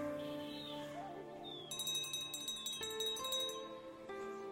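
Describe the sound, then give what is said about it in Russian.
A teacher rings a small hand bell to start a meditation session; it jingles rapidly for about two seconds, bright and tinkling, over a soft, sustained musical drone that continues before and after. No one speaks. “Когда учитель позвонит в колокольчик, вы начнете медитировать и закончите только по второму звонку.”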